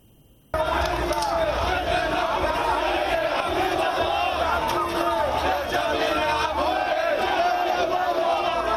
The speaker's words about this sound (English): Palestinians are once again laying to rest their loved ones killed by Israeli forces. This time, the funeral procession is for three men fatally shot in the occupied West Bank city of Jenin.